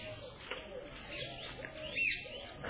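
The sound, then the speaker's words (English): Birds singing softly in a forest beside a lake, a steady mix of overlapping chirps and calls forming a quiet outdoor chorus with no one talking. “And so many birds are singing here.”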